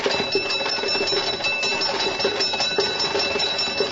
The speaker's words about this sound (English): Going to a fire in 1826, a team of horses pulling the fire engine of the Norwich Union Boys Firehouse. Arriving at a fire. The Norwich Union Boys doing what they best like to do, snuffing out fires in Manchester, England.